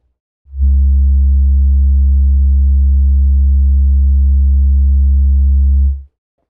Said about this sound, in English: If you've used the Language Master SE before, you can go directly to a section by pressing fast forward on your tape machine and counting the tones that mark each section.